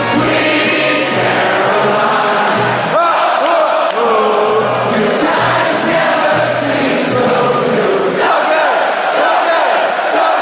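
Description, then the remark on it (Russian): A huge crowd of Boston Red Sox fans at a baseball stadium sings the club's anthem together in the middle of the eighth inning, a loud, sustained chorus, thousands of voices blending into a roaring, echoing swell that carries steadily throughout without a break. “болельщики Boston Red Sox уверены, что именно это хоровое исполнение помогло снять с клуба проклятие Бамбино”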